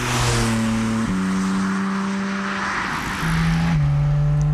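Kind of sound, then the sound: vehicle, sports car driving off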